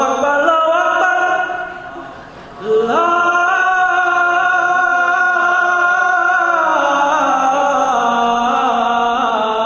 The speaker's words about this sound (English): And the 22nd time hearing the call to prayer. And the last time hearing the call to prayer.